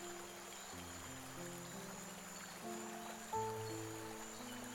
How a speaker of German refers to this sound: Die Sonne scheint mild und wärmend auf dich hinab, während du an einem lebendig strömenden Fluss stromabwärts spazierst.